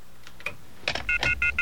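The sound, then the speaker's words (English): Telephone touch-tone dialing opens a theme: a few soft clicks, then a quick run of four or five clear, bright keypad beeps, fairly loud, with no one talking. “bear with me a moment while I put in the off-the-hook theme”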